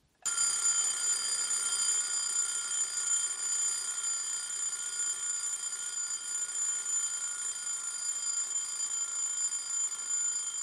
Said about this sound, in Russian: Установленный на 7 будильник с 2 колокольчиками.